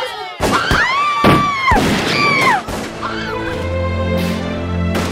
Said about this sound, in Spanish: Sonidos de disparos se escuchan por doquier.